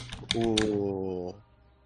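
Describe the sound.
A quick series of four or five sharp, clearly audible tongue clicks, the later ones overlapping a steady voiced hum that holds for about a second before stopping.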